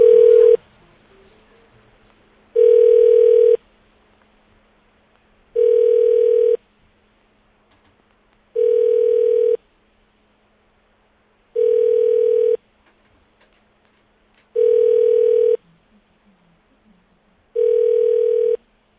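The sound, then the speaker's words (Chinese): An outgoing phone call's ringback tone, a call placed to a woman's husband: seven loud, steady one-second tones repeating at even intervals with roughly two-second silences between them, heard clearly with no one talking. “好，我们现在打给老公。”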